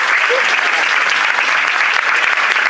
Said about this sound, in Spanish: Muy bien. Muchas gracias por la entrega. Un aplauso para todos los ganadores.